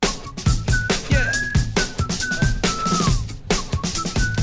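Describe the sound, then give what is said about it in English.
A thin, faint whistle glides and wavers in short phrases, half-buried under a dense, loud backdrop of rhythmic thumping music, heard in a clip being played back. “That's literally part of the whistle.”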